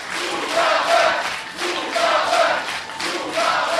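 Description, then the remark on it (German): Protesting students clap loudly and steadily while voices shout and chant over it in rhythmic waves, a dense, sustained din of applause and raised cries, as a lecture is about to begin after a piano piece. “Als nach einem Klavierstück der Vortrag beginnen soll, reagieren die protestierenden Studenten mit lautem Klatschen und Rufen.”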